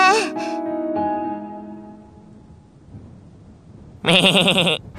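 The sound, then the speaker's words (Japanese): A human voice imitates a sheep's bleat for Pan, a sheep character: a wavering bleat at the start that trails off, then after a quiet pause a loud, trembling baa near the end. “ただの羊に戻るんじゃねえ。”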